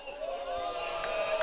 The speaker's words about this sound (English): You hear the oohs and ahs maybe from the crowd, but doesn't get the call with that one.